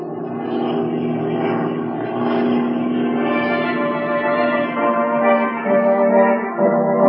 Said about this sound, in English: Land in the lake and taxi up as close as possible to the place that fellow came down.